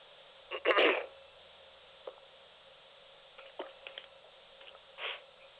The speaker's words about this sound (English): a little drink of water there.